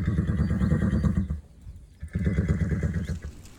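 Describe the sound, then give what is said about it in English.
A horse named Pilgrim in Old Glossop makes a low, fluttering, rumbling, purring whinny in two long bursts separated by a short pause, with no talking. “Now then, meet Karis's horse, Pilgrim, who's purring in Old Glossop.”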